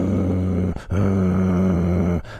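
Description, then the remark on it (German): A person imitates a dog's growl: a short low throaty rumble, a brief pause, then a longer steady growl. Both are loud, harsh and sustained. “Das ist quasi aus dem Kehlkopf heraus, wie er knurrt.”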